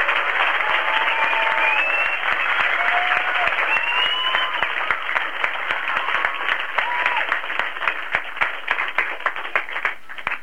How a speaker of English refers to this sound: How about a big clap for Dan Birch on the space station?